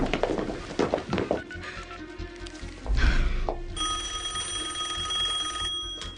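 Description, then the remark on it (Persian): A telephone rings with a steady, bright electronic tone that sustains through the second half, preceded by a few knocks and a muffled thump; no one speaks. “جواب تلفن رو نمیدی؟”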